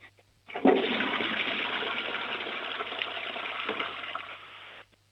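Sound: toilet flush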